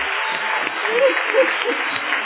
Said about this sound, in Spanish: Aún un aplauso a todos los papás que están aquí.